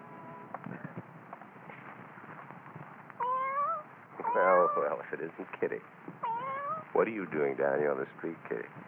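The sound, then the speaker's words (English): A cat in a dark doorway at night meows several times, with drawn-out, wavering cries that rise and fall, some loud, others shorter, over a steady low background hum. “Kitty, come on, kitty. Come on out of that dark doorway. What's the matter, cat?”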